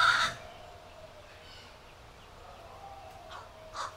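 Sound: crow cawing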